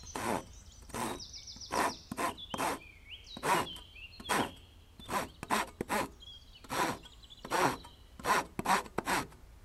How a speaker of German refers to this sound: Kannst du hier mal festhalten? Ich möchte hier ein Brett absägen.